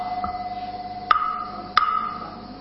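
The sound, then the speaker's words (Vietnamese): Two sharp knocks on a wooden fish temple block, spaced a little over half a second apart, each leaving a brief hollow ring. A faint steady hum sits underneath, with no talking. “giống vậy, cốc cốc cốc, gõ đầu ben cốc bèn cốc, bèn cốc.”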